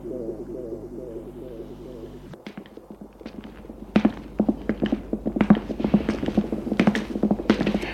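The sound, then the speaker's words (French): Steady footsteps click across a hard floor, starting quietly after a low humming tone fades and growing louder halfway through, with sharp, closely spaced strikes. “Des pas.”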